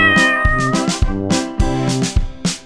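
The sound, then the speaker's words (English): A cat meows several times in a steady, repeating rhythm, loud, with a sustained tonal backdrop running underneath and no talking. “I am a cat.”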